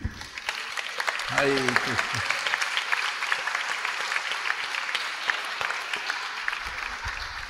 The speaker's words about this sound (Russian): И давайте поприветствуем аплодисментами.